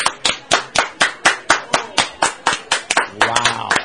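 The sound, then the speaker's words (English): A group claps together after a count of three, in a loud, steady unison rhythm, roughly four sharp claps per second, before the beat loosens into scattered clapping as a voice comes in at the end. “On the count of three, start clapping, and then I'm going to open them, but keep clapping because I got to see who's louder.”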